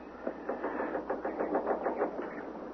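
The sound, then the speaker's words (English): A car starter cranks over and over as the key is turned, without the engine catching, a rapid, steady train of whirring, grinding pulses at a moderate level, with no voices. “Well, I turn the key and the starter doesn't... It's dead.”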